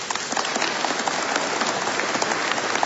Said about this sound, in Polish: Dziękujemy scholi, a czynimy to także gorącymi oklaskami, bo dzisiaj podczas całego naszego spotkania chcemy wraz z nimi śpiewać, uwielbiać Pana Boga. Brawa dla nich!